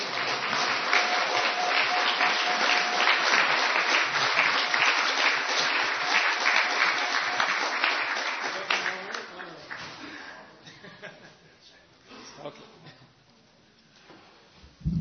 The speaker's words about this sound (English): Another big round of applause for Deva Amrita Swami.